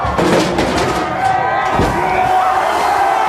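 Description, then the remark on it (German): A large crowd of demonstrators cheers and roars continuously at the harbour in Bristol, England, loud and dense, with a brief splash-like thud as they sink a toppled statue of slave trader Edward Colston in the water. “Demonstranten stürzten eine Statue des Sklavenhändlers Edward Colston vom Sockel, rollten sie zum Hafen und versenkten sie jubelnd im Wasser.”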